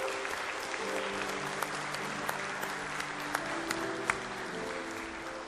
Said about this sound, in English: Guys, would you give Sam a nice round of applause?